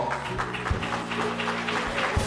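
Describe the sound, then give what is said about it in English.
An audience applauds a choir with steady, dense clapping that holds at an even level throughout, while sustained low musical tones hum underneath. “Give that choir a round of”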